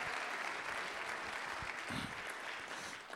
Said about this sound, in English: Well, give yourself a hand clap there. You're a remarkable crowd of people.